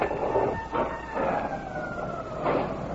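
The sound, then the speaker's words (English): A loud alarm siren wails steadily, its tone sliding slowly downward over a few seconds, backed by a low rumbling background and no voices; the alarm is sounded at a rescue boat squadron after an emergency alert from the tower. “While visiting the 1100th Rescue Boat Squadron, an emergency alert was received from Bowling Tower. The alarm was sounded at once.”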